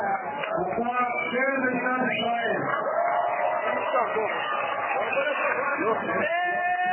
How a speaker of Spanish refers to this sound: Esta vez fue como más modesto, no había euforia, pero sin duda ambiente de celebración que de hecho podemos compartir directamente con los oyentes por el audio que grabamos en el lugar